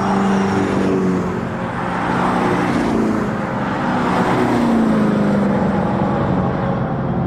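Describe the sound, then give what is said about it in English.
A loud, simulated V8 engine roar from an electric car as it zooms past at full tilt on a track, its pitch sweeping up and down over several seconds with no one talking. “But hearing these cars zoom by on the track at full tilt, it sounds very convincing.”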